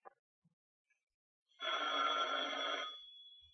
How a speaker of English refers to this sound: So will that phone ever stop ringing so we can get on with this?